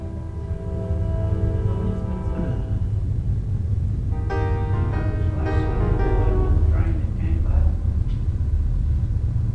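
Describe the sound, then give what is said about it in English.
A train rumbles past with a steady low roar, overlaid by long tonal horn-like harmonics that swell and shift in pitch midway through, loud and continuous throughout. “We'll wait till the train goes by.”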